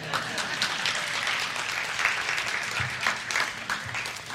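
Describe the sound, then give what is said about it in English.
A crowd applauds steadily, many hands clapping in a dense, continuous wash that holds at an even level for a few seconds, with no one speaking over it. “You can clap for that, please.”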